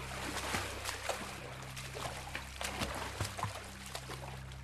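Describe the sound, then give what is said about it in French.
Irregular water splashes and sloshing strokes of someone who has jumped from a boat and swims with big breaststrokes, over a steady low mechanical hum and a constant watery hiss. No voices. “le lutin qui s'en aperçut et qui sauta du bateau et se mit à nager à grande brasse.”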